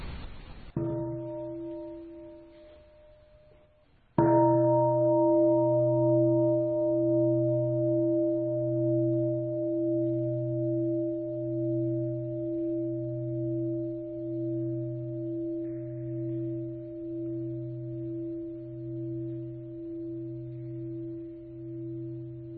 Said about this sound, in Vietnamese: Và mở đầu đó là những tiếng chuông các vị nghe. Các vị thấy âm vang của tiếng chuông, nó là một cái loại âm thanh rất đặc biệt.